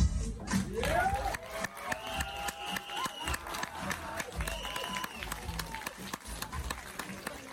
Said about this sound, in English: people started standing up and clapping and cheering, and they gave Minions: The Rise of Gru a freaking standing ovation